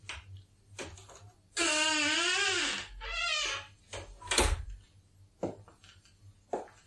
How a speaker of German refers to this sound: Ohne sonderliche Hast steigt er die Stufen zum Obergeschoss hinauf. Wenig später öffnet er eine Tür.